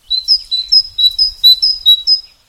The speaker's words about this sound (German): Zum Beispiel die Kohlmeise. Ein kleiner Vogel mit schwarzem Kopf, weißen Wangen und einem gelben Bauch.